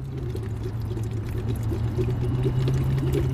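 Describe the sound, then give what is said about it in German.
Steady bubbling and gurgling as air is blown into a bottle of water as a voice exercise, with a continuous low droning hum running underneath for the whole few seconds. “dass ich da reinblubbern kann und dann hören wir gleich, wie sich das anhört, wenn ich reinblubber”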